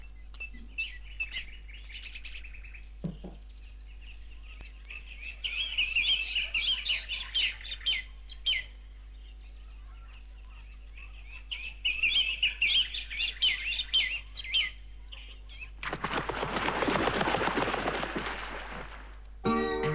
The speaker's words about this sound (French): Avec les petits oiseaux en plus, au début.